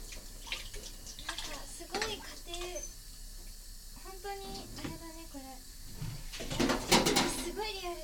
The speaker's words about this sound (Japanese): お茶碗を洗う音をお聞かせしましょう。